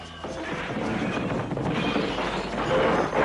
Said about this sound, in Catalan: Van caure a terra i es van trencar amb trossets petits, petits. Amb el soroll de la trencadissa va venir corrent el gran savi Catifa.